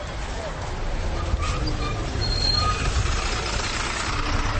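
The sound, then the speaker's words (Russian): A modern Jelcz city bus pulls in at a stop in Warsaw, its engine rumbling low and steady, with brief high-pitched brake squeals over continuous street noise and indistinct background voices. “До места, где состоится показ старинных автобусов марки «Елч», еду автобусом этой же марки, только современным.”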